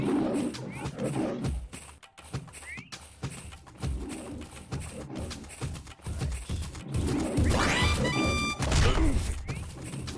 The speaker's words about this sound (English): Well, walk away from that. It's a tiger.